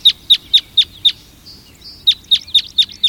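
Crossbill calls: a quick run of sharp, high 'jip' notes, a short pause with a faint thin whistle, then another rapid burst of about six, loud with no other sounds.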